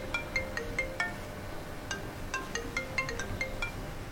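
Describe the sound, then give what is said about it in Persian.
A mobile phone rings with a bright, melodic ringtone: two phrases of quick chiming notes separated by a short pause, clear, with no voices over it. “این گوشی تو نیست؟”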